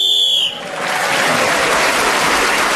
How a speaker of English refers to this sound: So … was then speaking as the whistle went, gained that extra point and others in the round.